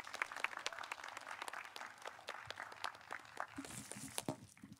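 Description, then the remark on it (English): An audience applauds as a speaker is invited up, a dense crackle of many hands clapping steadily for about five seconds at a fairly soft, even level, with no voices over it. “Please give Cleve a round of applause.”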